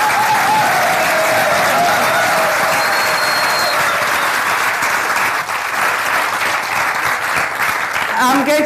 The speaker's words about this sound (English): And I really do think they deserve a massive round of applause.